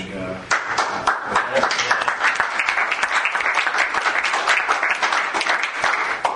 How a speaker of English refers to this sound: It deserves a lot more clapping, I'll tell you.